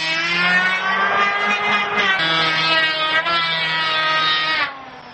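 An electric hand planer motor whines steadily at a high pitch, a loud buzzing drone with a rough, rasping edge that holds for several seconds before cutting off sharply near the end. It is being used to build a house by hand in a village.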